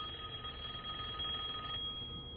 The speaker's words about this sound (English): Just go get the phone. You hear the phone ringing? It rang like 3 times already.